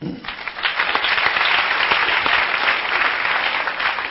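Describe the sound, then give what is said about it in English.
A crowd of parents applauds steadily when asked how many parents are there, many hands clapping in a dense, even wash that holds for several seconds at a fairly loud level, with no one speaking over it. “How many parents here by applause?”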